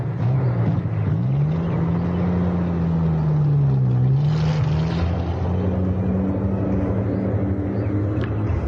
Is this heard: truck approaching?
yes